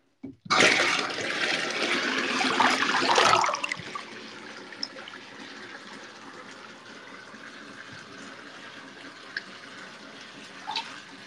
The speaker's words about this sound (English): I'm gonna run my hair under the faucet so I can wash it.